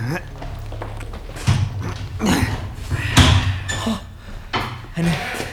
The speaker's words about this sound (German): So, öffne die Metalltür da.